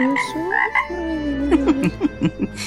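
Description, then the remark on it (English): A small toad croaks, a low trilling call followed by a run of short, regular pulsing croaks, with no one talking over it. “Oh, it's a wee toad.”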